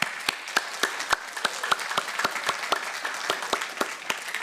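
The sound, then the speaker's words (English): A crowd applauds God steadily, dense overlapping claps with sharp individual hand strikes popping out in a fairly even rhythm, moderately loud and sustained with no voices over it. “Yeah, let's just give God a big applause.”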